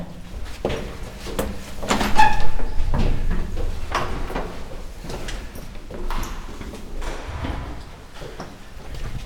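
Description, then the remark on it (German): A heavy door of the Catholic St. Kyriakus church in Niederau, Düren, Germany, creaks and thuds open, followed by clattering, knocking footsteps and scraping as people climb the bell tower in a reverberant space, with faint muffled voices in the background. “Zuerst geht es den Glockenturm hinauf und dann durch eine Tür in das Gewölbe oberhalb des Kirchenschiffs.”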